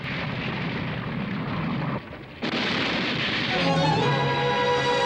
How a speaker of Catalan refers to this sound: El sostre dels passadissos cau a plom.